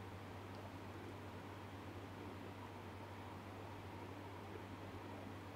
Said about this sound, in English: You can hear the sound of the air conditioning and the sound of my voice.